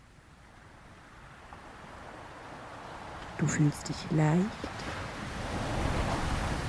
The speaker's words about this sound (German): Du liegst so nahe am Meer, dass es dich mit jeder Welle in angenehmer Temperatur umspülen kann. Das Wasser umspült dich von den Füßen bis zum Kopf und zieht sich dann sanft ins Meer zurück. Immer wieder.